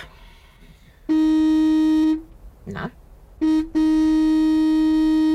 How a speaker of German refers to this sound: Wir stehen still, alle. Gefahr ist vorüber und Sie hupen. Anstatt jetzt zu hupen, hätten Sie besser gehupt als die unglückliche...